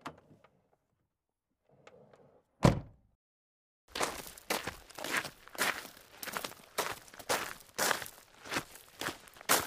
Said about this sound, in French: Ses pas résonnèrent sur le gravier. Il se trouva bientôt devant la porte de la petite église.